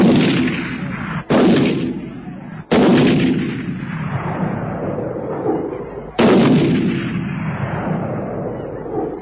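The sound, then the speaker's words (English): Rifle gunfire: four loud, sharp shots at uneven intervals over several seconds, each followed by a long rumbling decay that fades before the next crack. No voices. “At last, the Bareka ran for cover, terrified by this new, strange weapon that never ran out of ammunition.”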